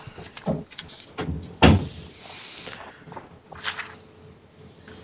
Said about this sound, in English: Here, one sec. I'm going to close the door because I can actually hear you through the hall.